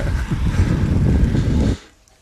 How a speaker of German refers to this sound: Aber was ich da krass finde, man hört da den Wind. Das fand ich nämlich erstaunlich. Es war am Timmelsjoch auf einmal echt windig. Und auch gerade oben raus, das sind ja dann die Serpentinen.